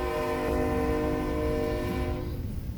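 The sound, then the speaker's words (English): A train horn blares in a long, loud sustained chord over the heavy rumble of a passing train, with no voices. “I think we should add a responsibility about somebody blocking the noise of the train somehow.”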